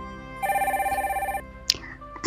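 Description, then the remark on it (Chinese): A telephone rings once with a fast warbling trill lasting about a second, fairly loud, as a listener calls the hotline of the radio show 性吧电台, followed by a sharp click and a brief burst of noise as the call is picked up. “那么此时此刻呢，我们的导播也是示意有一位听众朋友打进热线电话，让我们一起来先接听一下。”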